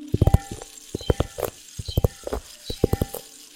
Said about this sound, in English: This is a mini rain stick.